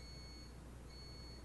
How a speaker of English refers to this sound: That's the coffee maker shutting off. Do you think they heard that mm-hmm. beeping?